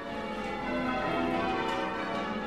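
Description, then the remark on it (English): A bronze church bell rings with a sustained, shimmering hum of overlapping tones, holding steady and fairly loud throughout with no voices present. “Nearly all church bells are made out of a bronze, and that's what gives them their distinctive tone and sound.”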